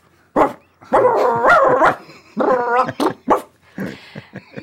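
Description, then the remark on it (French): A dog barks and yips in a loud series of irregular bursts, some drawn out into whining, whimpering tones, with short pauses between them. “Ah pardon, évidemment, j'ai oublié, tout le monde n'a pas pris toutou en première langue.”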